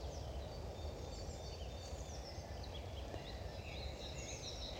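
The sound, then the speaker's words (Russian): Many birds chirp and whistle continuously in a dawn chorus in a small grove minutes before sunrise, calls overlapping from various distances over a steady low outdoor rumble. No one speaks. “Вы слышите птиц?”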